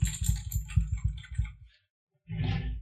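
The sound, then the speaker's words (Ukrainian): Rapid keyboard typing by a person sitting at work in front of a keyboard, a steady patter of clicking keystrokes that stops abruptly, followed by a short silence and then another quick flurry of keys. “Пане, дивись, от ти сидиш на роботі, сидиш перед клавіатурою, ти такий.”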